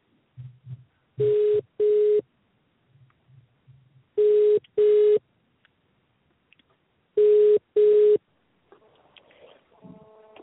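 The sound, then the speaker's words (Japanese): A telephone rings in three double bursts, each a pair of short, steady electronic tones with long pauses between. Faint low thumps come before it, and a brief muffled tone follows at the end. “あ、電話鳴ってますね。”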